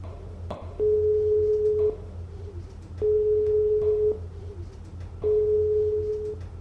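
A mobile phone call to the rescue service after an avalanche fails for lack of signal: a steady tone sounds three times in long, evenly spaced beeps with pauses between, over a low background rumble.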